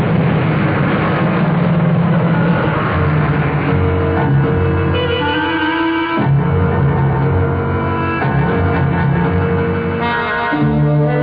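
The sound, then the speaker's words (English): A loud racing car engine roars and whines up and down in pitch, with a sudden sharp burst partway through like a crash, then the engine noise continues; a racing car crash in the radio mystery drama The Gray Ghost. “The damn fool's trying to come back inside, but the car won't hold the...”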